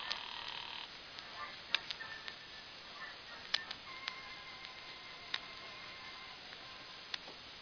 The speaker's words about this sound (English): I will keep ringing his apartment.